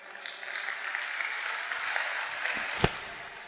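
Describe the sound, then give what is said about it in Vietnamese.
A crowd claps steadily, a dense, continuous patter of many hands for several seconds, with one sharper, louder clap standing out near the end. The boys in the audience are applauding the girls at a gathering in a Buddhist temple. “Các bạn nam thưởng cho các bạn nữ một tràng pháo tay.”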